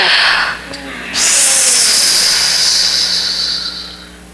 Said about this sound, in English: Come on, I just want you to do something with me right now. I want everybody to just take a big old deep breath.